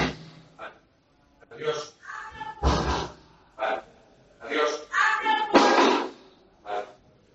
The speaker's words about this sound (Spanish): deja de estar golpes. Por favor, Ali. Estás descontrolado, por favor, Ali. No voy a abrir la puerta.